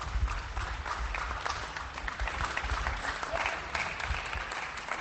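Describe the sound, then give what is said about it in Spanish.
Steady, dense applause rises from many people at a distance in the streets of Spain, applauding health workers, a continuous wash of clapping echoing across open streets, with faint crowd murmur beneath and no single voice standing out. “Es decir, que España entera está aplaudiendo a nuestro personal sanitario.”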